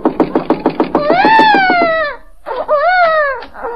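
baby crying

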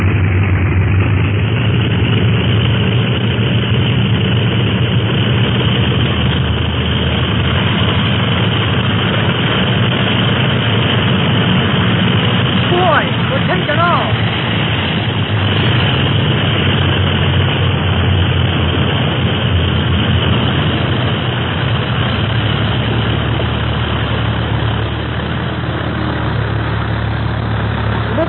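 airplane engine roaring

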